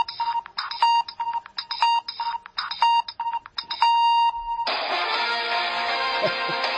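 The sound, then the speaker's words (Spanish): A custom mobile phone ringtone plays as the phone is called: quick, bouncy electronic beeps repeat in a rhythmic melodic pattern, then give way to a louder, dense, sustained musical passage. No one speaks. “te propuse esa aplicación para crear tonos de móvil personalizados”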